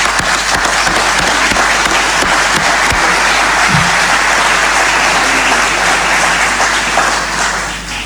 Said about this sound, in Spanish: Especialmente a quienes se destacaron en el grupo de afinidad Science 20, que parece que también la rompieron. Así que felicitaciones, un aplauso para ellos.